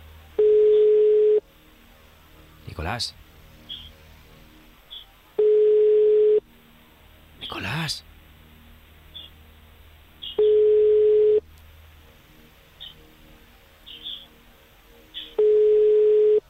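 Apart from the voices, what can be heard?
telephone ringback tone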